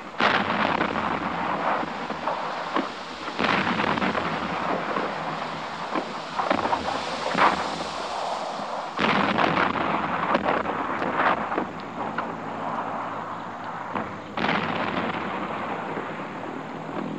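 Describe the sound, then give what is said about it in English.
Naval guns at sea off the coast of France boom and rumble at dawn in repeated heavy bursts, blending into a constant roar of wind and engine-like noise, with no voices. “Then the rumble of guns from the sea told us the fight was on.”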